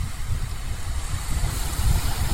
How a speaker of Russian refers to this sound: Давайте послушаем море и подумаем о чем-нибудь, о своем. Правда, хорошо думается под шум прибоя?